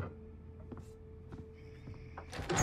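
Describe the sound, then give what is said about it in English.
A few soft clicks and a thin, sustained squeak give way to a louder rush of noise as a woman pulls a door open to a visitor, all over a low, steady hum with no talking. “She turns to the door.”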